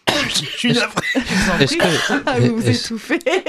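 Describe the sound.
A man coughs a few times in short, rough bursts, close by, while someone keeps talking over the coughing.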